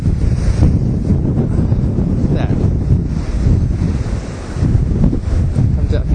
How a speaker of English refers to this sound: It could wash me away. Let's hope not. It's rolling and rolling. The seas are high.